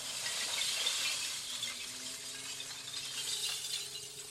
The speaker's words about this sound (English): This dump truck crushes the glass into small chunks in the back of the bed. Then the back door lifts high off the ground, and a rainbow of glass comes raining down onto the road.